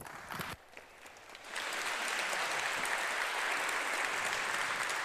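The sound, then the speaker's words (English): An audience breaks into applause to welcome a speaker, a brief dip giving way to steady, dense clapping that swells after a moment and holds loud and even to the end, with no talking. “Let's welcome him with a heartfelt round of applause.”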